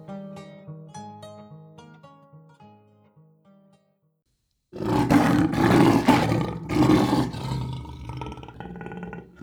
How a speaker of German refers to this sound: Und sicher habt ihr auch schon einmal gehört, wie ein Löwe brüllt. Aber habt ihr gehört, wie laut er wirklich brüllen kann, wenn er auf Jagd ist? Oder wenn ihm etwas wehtut?